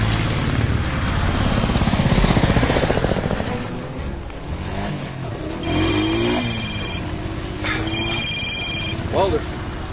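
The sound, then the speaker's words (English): Helicopters roar overhead with a steady rhythmic rotor chop, loud at first and then easing, while a phone rings in short bursts and voices speak over the noise. “I'm trying to lose these helicopters.”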